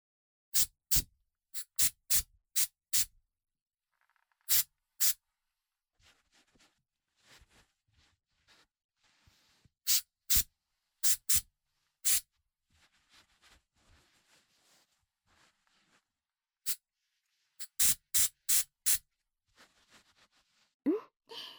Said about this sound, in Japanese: では最後にヘアスプレーでスタイリングを。はい、もちろんしっかりセットさせていただきます。はい、スプレー失礼します。